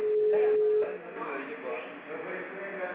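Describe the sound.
A single steady beep from a digital phone answering system, sounding after a recorded message asking the caller to dial an extension, holds one mid pitch for under a second, then gives way to narrow, tinny telephone-line sound with faint voices.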